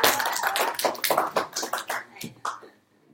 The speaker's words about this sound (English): Applause for yourselves. Give us an applause. Nice loud applause.